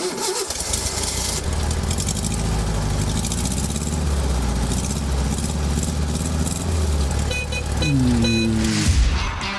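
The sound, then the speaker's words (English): A car engine, before being rebuilt and tuned, runs steadily with a rough, rumbling idle, a slight rise in revs and a brief whine near the end before it cuts off. No one speaks. “To come and have your engine rebuilt and tuned with Advanced Engine Dynamics, or not to have it done, you be the judge.”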